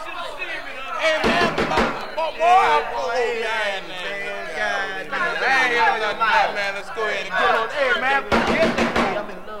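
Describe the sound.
Rapid bursts of sharp knocking on a door, one cluster near the start and another near the end, heard alongside steady, lively talking from several voices.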